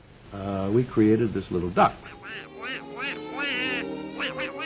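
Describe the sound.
Donald Duck, the Walt Disney cartoon duck character, sputters in a raspy, quacking voice through a rapid string of garbled, squawking syllables, loud, with no background sound.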